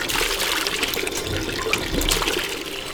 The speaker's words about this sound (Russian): Изготовил и установил ручной насос, с помощью которого поступает вода из источника. Нужно подставить только ведро.